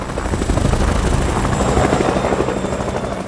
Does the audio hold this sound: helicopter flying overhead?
yes